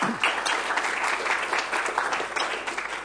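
Steady applause from an audience at a Linux distro summit welcoming a speaker, a dense crackle of many hands clapping at an even, sustained level for the whole few seconds, with no voices standing out.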